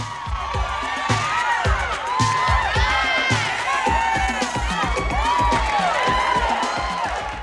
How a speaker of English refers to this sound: Jenny Livingston's 1990 documentary, Paris is Burning, captures the city's drag ball scene from this period. And in an opening scene, a black drag queen struts down the centre of a ballroom to cries of Yas from the crowd.